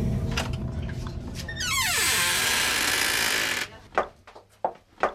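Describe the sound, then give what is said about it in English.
A long, loud creak of wood slides downward in pitch for about two seconds. A few uneven footsteps follow, thudding on steps as people walk down into a restaurant's cellar. “So that creak and footsteps you just heard was us walking down to the cellar.”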